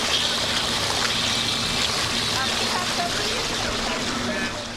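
Geothermal water at the thermal baths in Mszczonów, over 30 degrees warm, splashes and babbles steadily, a constant bubbling wash that holds an even level for several seconds before easing slightly at the end.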